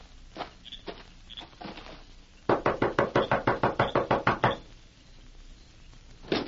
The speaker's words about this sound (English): You knock on door. When man come out, let me get him.